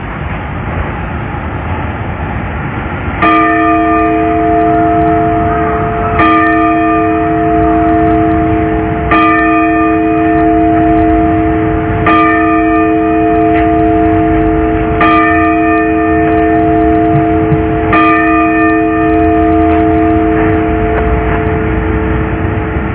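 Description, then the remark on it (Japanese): The bell of the Sapporo Clock Tower in Sapporo, Hokkaido, Japan, strikes six times to mark 6 a.m., at steady intervals of about three seconds, each loud clang ringing on in a long, humming tone over a constant low rumble of outdoor background noise. “札幌時計台の鐘が午前6時をお知らせします。”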